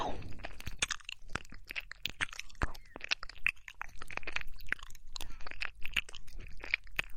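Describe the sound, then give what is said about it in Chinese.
Soft wet chewing and mouth noises as someone gently nibbles an ear held between their lips, a steady stream of small clicks and smacks in an irregular rhythm, quiet and intimate, with no talking. “人家这次用粉红色的嘴唇夹住您的耳朵，在嘴唇边摩擦，一点点含住，含在我的嘴里，轻轻的嚼着。”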